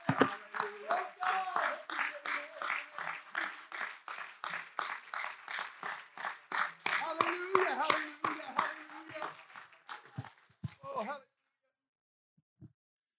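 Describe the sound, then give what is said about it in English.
A crowd claps in a steady, rapid rhythm for about eleven seconds, answering a morning sermon's call to clap their hands unto the Lord. Scattered voices and a few calls rise over the applause before it stops abruptly, leaving near silence. “Oh, if you believe that this morning, would somebody clap your hands unto the Lord?”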